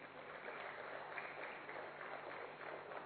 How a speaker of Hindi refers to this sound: जोरदार तालियां हो जाए।